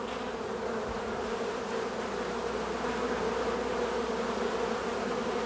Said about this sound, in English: Look, LeVar, over here you can see a bee feeding one of the larvae. She'll stick her head in there and deposit some food, nectar, and pollen to the larva.